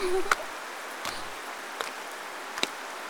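rain falling

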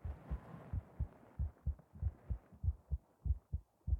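heartbeat

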